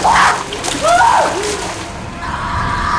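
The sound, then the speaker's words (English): Water splashes loudly as a woman swims up from underwater and breaks the surface, followed by a short gasp for air and continued sloshing of water. “Leah is submerged in the water at the bottom of the devil's throat. She swims up to the surface and gasps for air.”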